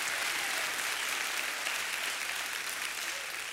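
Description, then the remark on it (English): An audience claps steadily to rejoice and praise God, a dense, continuous wash of many hands at an even, fairly loud level throughout, with no words spoken over it. “Oh, you ought to clap and rejoice and give God a witness for his amazing grace in our life.”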